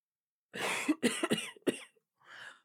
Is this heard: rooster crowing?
no